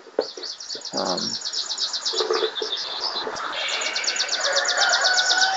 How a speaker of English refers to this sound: It is daytime. Soon the sun will be at the highest point in the sky, but it is not quite there yet. Birds are chirping. You hear the occasional forest animal, like cows moving, that kind of thing.